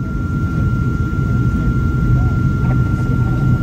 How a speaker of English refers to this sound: Look at that. That's a drone. See, that's a drone. I guess this is what the drones are doing.